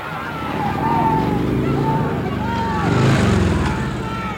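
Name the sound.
police motor scooter engines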